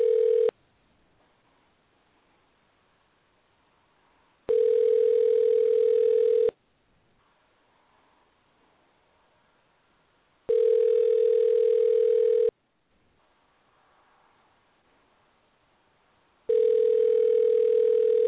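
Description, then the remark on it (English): A phone ringback tone repeats on an outgoing call a show host places to a caller, about two seconds of steady, mid-pitched tone followed by roughly four seconds of silence, four rings in all with no voices; the call goes unanswered. “Okay, she's not picking up.”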